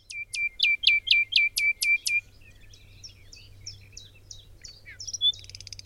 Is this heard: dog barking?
no